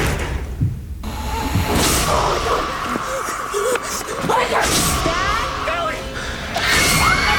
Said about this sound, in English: This is the freakiest thing that happened to me last night. This is the door closing by itself.